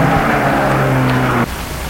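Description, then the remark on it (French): Steady rain hisses while a woman tries to start her car in the street; the engine cranks with a low, even mechanical whir for just over a second, then cuts off abruptly without starting, leaving only the rain. No one speaks. “Essaye, c'est de mettre sa voiture en route.”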